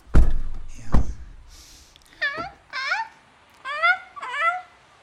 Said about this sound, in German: Oh, die Möwen, die haben schon wieder Hunger.